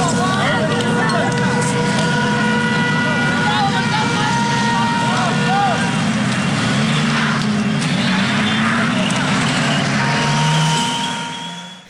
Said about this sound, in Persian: در یکی از ویدیوهایی که الان میتونیم صداشو بشنویم، آتش دیده میشه، حضور افراد مختلف با شعارهای گوناگون هم دیده میشن که حالا صداشو الان میتونیم بشنویم.